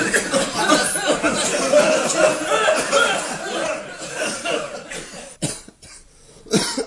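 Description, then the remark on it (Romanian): A crowd of people coughing at once, a dense, continuous burst of overlapping coughs and hacking, fairly loud, with a few sharp isolated coughs standing out near the end. “Toți tușim.”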